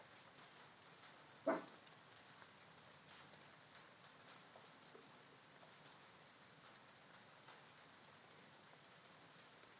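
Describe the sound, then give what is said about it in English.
Steady, soft rain from a passing storm patters continuously throughout, a constant hiss of drops on surfaces, broken only once early on by a single brief, sharp sound. “Certainly feels fresher now, but I'm sure once the storm's passed it'll be humid again and the sun will probably come out.”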